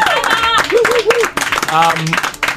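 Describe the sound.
A burst of steady clapping from a group, dense and bright, with voices calling out and cheering over the top throughout.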